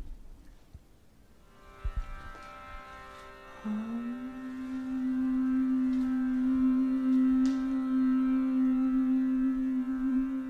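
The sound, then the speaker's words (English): A steady sustained tone drones throughout, and after a few seconds a voice joins in with a long, even hum held on one pitch, blending closely with the tone. “We're going to do a little bit more humming with this sound.”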